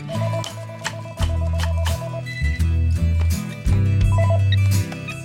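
telephone dialing and ringing

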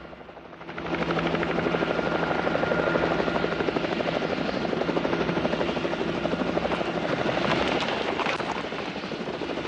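helicopter hovering overhead

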